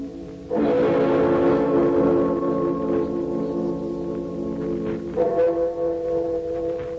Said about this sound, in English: you can hear the clock atop Amy Semple McPherson's Angelus Temple.